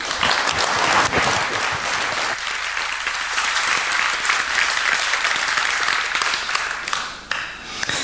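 Sustained, dense applause from an audience, many hands clapping in a steady roar that holds loud for several seconds, dipping briefly near the end before swelling again.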